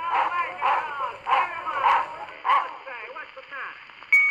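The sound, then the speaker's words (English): During a dog fight between two dogs, one of them named Baloney, a dog barks in a steady run of about five sharp, tinny woofs, then breaks into higher yelping whines, fairly loud over a thin, band-limited background. “Now then, gents, this is a dog fight between two dogs.”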